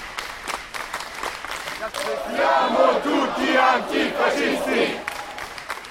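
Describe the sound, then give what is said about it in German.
Antifascist protesters chant and shout in Italian on arriving at the train station in Spandau, Berlin, on Saturday 19 August, in a rhythmic, rallying call, voices swelling loudly after a scattered start with sharp claps or percussive hits punctuating the din. “Bereits bei der Ankunft im Bahnhof zeigten sich die Leute sehr kämpferisch und brachten sich auf Italienisch in Stimmung.”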